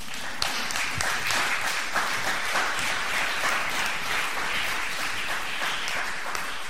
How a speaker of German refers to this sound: Applaus bitte.